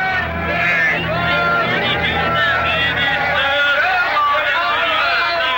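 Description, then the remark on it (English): A dense, steady babble of many overlapping voices fills a crowded market inside the ancient city of Granada, with chatter and calls weaving together at an even, loud level throughout. “Inside, in a busy market, a potter spins his wheel as he fashions a vase.”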